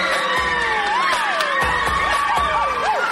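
A large crowd screams and cheers continuously, high shrieks and whoops rising and falling over a dense, loud roar with no clear pauses.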